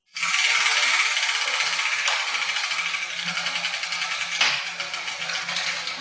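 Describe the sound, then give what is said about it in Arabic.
Letter tiles rattle and clatter steadily for several seconds as they are shaken and drawn to pick the letter of the day for a letter game, with a couple of sharper clicks standing out, and no voices. “ما هو الحرف الذي سقط يا جدتي؟”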